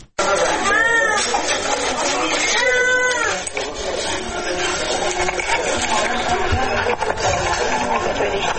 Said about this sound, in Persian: نوزادانی که از گرسنگی ناله می کنند و به جای آغوش مادر به بستر شفاخانه رفتند.